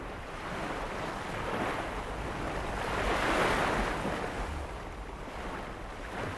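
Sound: sea waves breaking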